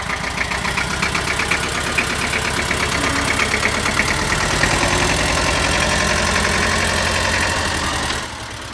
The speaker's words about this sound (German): Das hat schon mal geklappt. Sicher kommt der Trecker mit dem Anhänger zum Stehen, auf dem beim Rosenkorso das Motiv der Dorfliebe Steinfurt mit tausenden Rosen geschmückt durch die Straßen rollen wird.